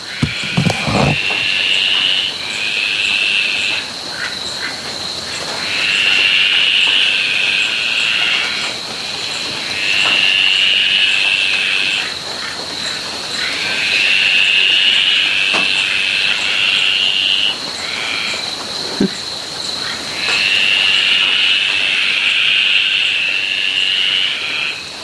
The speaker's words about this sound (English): In Kurrabell. It's raining again, but at least we got these yummy frogs.